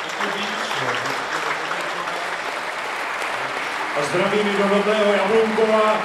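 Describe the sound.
Prolonged applause from a crowd at Drahoš campaign headquarters, a dense, steady wash of clapping that holds at an even loudness, greeting the liberal pro-European challenger's promise that he and his team would carry on, with a man's voice rising over it during the last couple of seconds.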